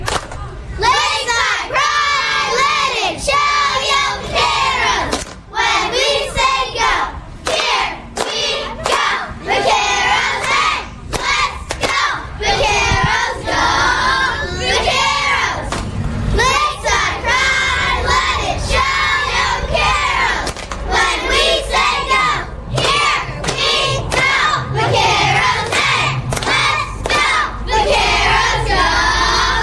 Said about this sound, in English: This is going to be our competition cheer. It's called Lakeside Pride. Hit it!